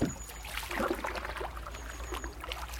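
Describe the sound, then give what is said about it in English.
A canoe, carried by two people, slides from a slipway into the River Waveney with a scraping push and lively splashing, then water trickles and laps around the hull. No one speaks. “Okay, so we're ready to launch a canoe. Grab that end, I'll grab this one. And take it over to the slipway.”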